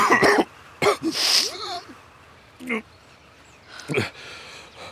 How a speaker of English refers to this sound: I'm coughing up blood again